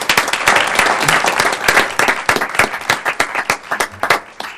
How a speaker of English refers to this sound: Thank you, and that was beautiful. A round of applause.